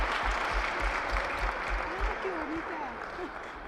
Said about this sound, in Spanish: con el aplauso, como no puede ser de otra manera, de estas gradas que están abarrotadas.